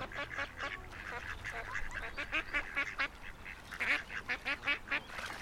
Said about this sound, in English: Is that a goose? No, it's a couple of male and female birds. A duck, mallard and a drake and a whatever the female one is called. Yeah. Having a little bit of an argument.